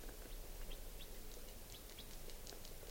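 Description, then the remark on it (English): Bird calls from a wild type 4 bird in the morning: short high chirps repeating irregularly throughout, set against a steady low outdoor rumble and hiss, with no one speaking. “Pointed at the wild bird.”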